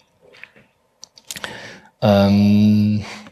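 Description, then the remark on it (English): A handful of soft, scattered clicks on a computer keyboard tap out over about two seconds as a name is typed into a search, followed by a loud, steady buzzing synthesizer tone that sustains for roughly a second before cutting off. “You can also start typing a name and it will like find the best match.”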